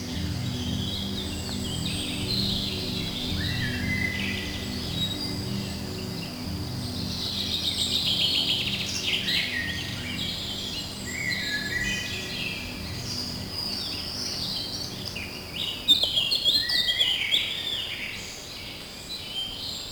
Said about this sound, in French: Comme un enchantement, une parcelle de forêt mixte surgit avec son florilège de chants d'oiseaux. Écoutez.